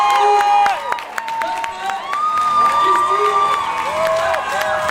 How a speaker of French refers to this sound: Alors, une convention digne de ce nom commence comme toujours par de nombreux cris de joie. Ceci accompagne la montée sur scène de nos guests présents sur l'événement le samedi.